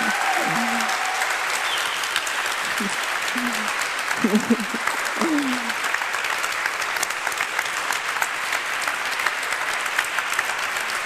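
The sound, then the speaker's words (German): Sustained audience applause, a dense, steady wash of many hands clapping for about eleven seconds, with a few brief voices calling out in the first half. “Noch ein Applaus”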